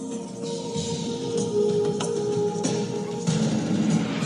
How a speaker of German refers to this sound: Wolfsgeheul klingt durch die Berge und lässt allen, die es hören, das Herz gefrieren, genau wie der Schnee.